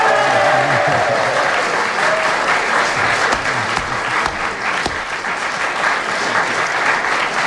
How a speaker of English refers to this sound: Well, that big cheer and prolonged applause probably is because our audience here realised that Kenneth had really achieved something with that tremendous flourish at the end.